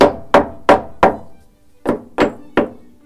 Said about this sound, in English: It's quite agricultural, isn't it? You just hit it with a just hit it with a hammer until it comes out. Nothing technical.